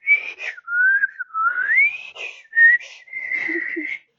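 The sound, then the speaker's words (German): A lone whistled melody with wavering, sliding pitch, a few short phrases with brief breaks, sounding hesitant and unsteady, with no talking; whistling out of fear while walking among the black trunks of a dark forest. “Als Schaf zwischen den schwarzen Stämmen herging, begann es vor Angst zu pfeifen.”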